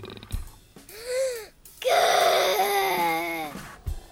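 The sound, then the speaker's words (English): A voice imitates a tiger's growl with two drawn-out, moaning vocal sounds, the first short and arching, the second louder and longer with a wavering pitch, and no other talk. “Can you growl? I can growl. Do you want to hear me?”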